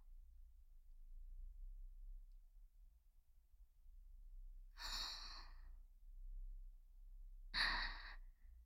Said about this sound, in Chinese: 看来很喜欢被我弄乳头呢，喘息的这么厉害。